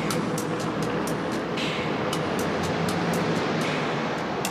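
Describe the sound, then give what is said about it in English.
A heavy armored truck rumbles steadily as it turns down an alley, its engine a loud, continuous drone with faint rhythmic rattling on top. There is no talking. “They hide behind the pickup as an armored truck turns down the alley.”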